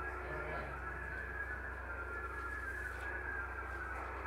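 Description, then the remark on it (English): MFSK32 digital radio tones: a continuous, warbling stream of rapidly shifting whistle-like pitches in a narrow band, steady and moderately loud over constant hiss and a low hum. “MFSK32 is the mode.”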